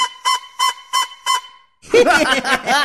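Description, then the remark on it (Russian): A magic flute, blown badly, gives five short, evenly spaced honking blasts on a steady pitch, followed by a louder, rougher burst of croaking, frog-like sound. “Да, здорово у тебя получилось. Прямо как лягушка.”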